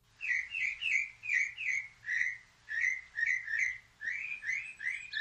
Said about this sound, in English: So let's – we're going to play some different sounds from this machine right now. Okay, the first one is what they call bird song.